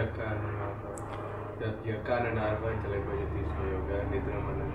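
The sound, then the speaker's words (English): A helicopter roars steadily overhead, its low, heavy engine drone loud and continuous throughout, with muffled voices faintly underneath. “Hold on a second, that you're getting drowned out. Krishna has appeared as the helicopter incarnation.”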